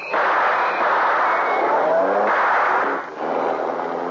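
A car engine roars loudly and steadily as the vehicle speeds away from a man shooting at it, with a brief dip near the end before the rushing drone resumes. No voices.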